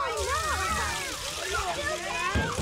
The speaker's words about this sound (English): Oh no! Splash water on him! Throw the water on him!